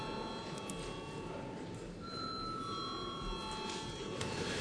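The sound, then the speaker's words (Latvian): A parliament chamber bell rings continuously before a vote on a bill's third and final reading, a steady, unbroken metallic tone sustained for several seconds over a busy, noisy background. “Paldies, lūdzu zvanu.”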